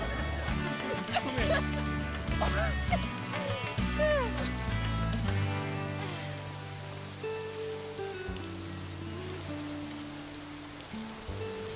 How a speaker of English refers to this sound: I love the rain. Yeah, I do too now. You do? Yeah, because I got your rain right here.